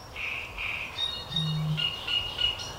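A great reed warbler sings a string of harsh, croaking, chattering phrases at night, with a brief low booming tone from a bittern underneath partway through and no talking.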